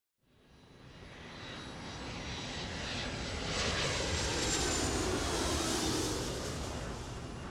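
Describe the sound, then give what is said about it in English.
An airplane passes overhead with a broad, rushing engine roar that swells quickly and stays loud, with no voices present. “I've always been interested in plane spotting ever since I was a little kid growing up in Holland.”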